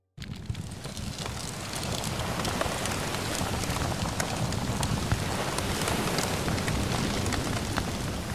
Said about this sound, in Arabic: يا رجال، زيدوا الحطب وأوراق الشجر الجافة، يجب أن تظل النار ضخمة متأججة، فرؤيتها بالنهار صعبة. زيدوا الحطب يا رجال.